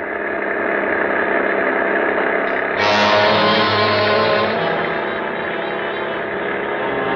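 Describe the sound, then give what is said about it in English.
An old car engine, souped up to reach 50, roars steadily, revving harder about three seconds in before settling into a rough, continuous drone as the car drives along a slick, icy road. “I've got her souped up to where she'll go 50.”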